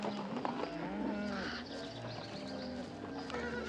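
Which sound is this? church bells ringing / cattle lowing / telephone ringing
cattle lowing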